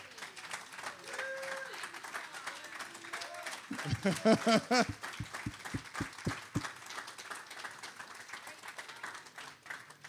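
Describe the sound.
A church audience claps and cheers at the end of a sermon, with a burst of sharp, rhythmic handclaps in the middle rising above a steady wash of crowd applause and scattered voices.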